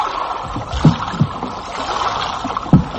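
A small wooden boat scrapes and knocks as it is dragged through water under a wall, with a steady wet washing sound and a few sharp thuds from the hull. No one speaks.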